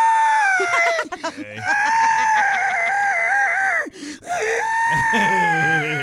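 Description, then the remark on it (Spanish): A woman screams loudly and shrilly, holding long, high-pitched wails that break off briefly twice before starting again, intense throughout. “Pura vieja ardida estaba gritando ahí.”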